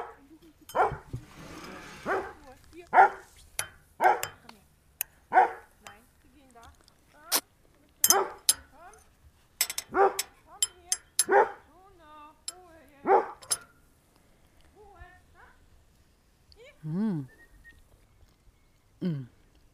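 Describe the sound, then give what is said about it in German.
A dog barks repeatedly on Ummanz in sharp, irregular bursts, loud, with a few softer yips and a whining note near the end. “Der Hund hat's euch verraten, dass wir auf Ummanz sind”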